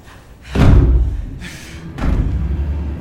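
Heavy, muffled pounding from inside against a locked door that someone holds down, with two loud booming impacts about a second and a half apart, each leaving a low rumble. No one speaks.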